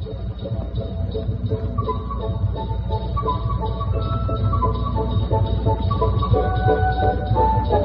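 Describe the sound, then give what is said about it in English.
Steady, clear ringing bells like silver bells chime in a descending pattern as something rushes by overhead, over a dense, continuous rumble, with a fast rhythmic patter of faraway galloping hooves running throughout. “Then it seemed to the donkey that somewhere overhead, something went rushing by with a clear, sweet ringing like silver bells, and there was a sound of faraway hooves galloping fast.”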